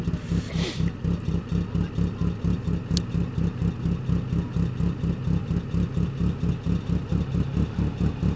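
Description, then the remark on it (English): A vintage Frazer Nash car engine, roughly 100 years old, in Dutch blue, runs loud with a steady, rapid low-pitched pulsing throb that barely changes throughout, plus a brief sharp click near the start, as the car competes. “The car's got to be the thick end of 100 years old. And here it is competing.”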